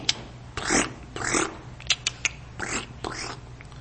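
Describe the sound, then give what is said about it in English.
Someone voices a series of squeaky, rising-and-falling chirp calls, imitating the chirp sound sheep herders make while caring for sheep, with a few sharp clicking sounds between them and no talking. “It wasn't uncommon to see sheep herders, and they're usually young fellows, not as old as you guys, probably closer to your ages, out caring for the sheep. They would make a chirp sound.”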